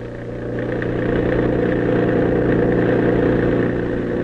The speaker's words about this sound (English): Our opening scene is a stretch of lonely, dark highway. Over it, roaring through the night, comes a motor truck.